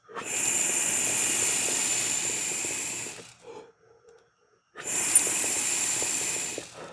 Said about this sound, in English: I take my dab of hash rosin right here, which is just going to be so delicious. Do you hear that sizzle?